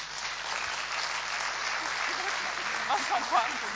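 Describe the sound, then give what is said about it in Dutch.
Steady, sustained applause from an audience after a speaker thanks someone and gives her a bunch of flowers, a dense wash of clapping throughout, with a few faint voices calling out near the end. “En daar wil ik je echt voor bedanken. APPLAUS.”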